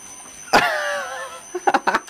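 A heat pump compressor driven by a VFD kicks on at 40 RPM with a sharp thump and a steady electric whine that holds for under a second, then fades as a few short excited vocal bursts follow.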